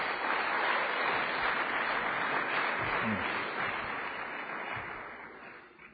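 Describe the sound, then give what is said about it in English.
An audience gives a round of applause for church volunteers who carried water and hot dogs to people in the parking lot: dense, steady clapping from many hands holds at a strong level for several seconds, then gradually tapers off toward the end. “Can we give them a round of applause, those servants?”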